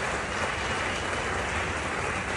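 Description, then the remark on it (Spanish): A large crowd applauds the Mexican national football team ahead of the 2026 World Cup, a dense, continuous wash of clapping that stays even in loudness from start to finish, with no voices standing out above it. “Un fuerte aplauso para nuestra selección mexicana.”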